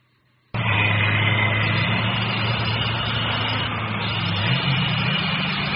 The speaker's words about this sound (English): The professor drives fast.